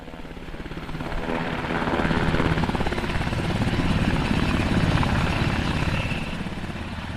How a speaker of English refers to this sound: Army helicopters flew the last round of supplies to Denali Base Camp yesterday